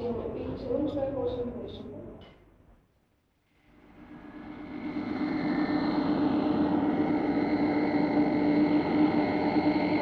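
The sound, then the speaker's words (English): A brief murmur of voices, a short pause, then a steady airplane engine drone swells in and holds, a loud, even whine with a low rumble as the plane idles before takeoff. “The plane's leaving in a few minutes.”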